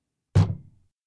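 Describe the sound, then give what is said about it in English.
A door shuts once with a solid, low thud, its dull resonance fading quickly into silence. No voices or other sounds accompany it. “Now Cat smiled and closed her door.”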